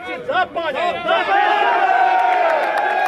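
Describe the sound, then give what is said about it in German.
An angry crowd erupts in loud shouts and cheers, applauding a man who attacked a bus. Individual voices rise and fall at first before merging into a sustained roar, with faint clapping near the end. “Auch der Angreifer auf den Bus ist anwesend und wird mit Applaus empfangen.”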